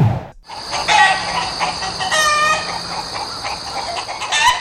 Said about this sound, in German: Das Dutzend Hühner vor der Werkstatt gackert aufgeregt.